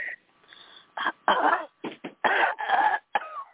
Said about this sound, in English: So, Mom, just real quick, Mom, just take a cough. Yeah, I was going to say take a deep breath, but cough.